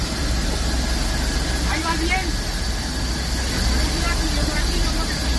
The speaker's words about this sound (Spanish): Es el sonido del rescate de ese menor que tuvo que ser rescatado en helicóptero y trasladado al hospital Miguel Servet de Zaragoza.